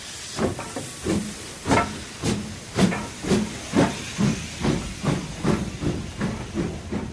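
A steam locomotive hisses and chuffs in a steady rhythm, roughly two loud bursts of steam per second over a continuous background hiss, with no voices.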